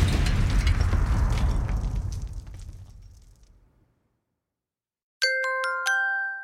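explosion

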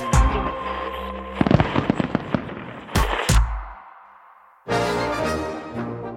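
fireworks exploding

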